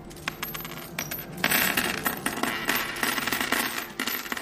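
A continuous jingle of aluminium coins from communist-era Poland (PRL), of various denominations including one-złoty and five-złoty coins, spilling and clinking together, dense metallic clatter building in intensity midway, fairly loud, with no voices.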